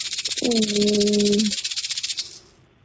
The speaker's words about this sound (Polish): Nie, ale blisko, bo jest to instrument. Grzechotka.